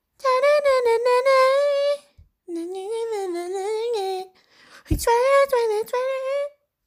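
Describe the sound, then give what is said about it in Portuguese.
A single voice sings a catchy tune without words, imitating a popular TikTok song in three close, loud phrases with wavering pitch and brief pauses between them. “Então, mas tem uma musiquinha que ela fica assim, ó.”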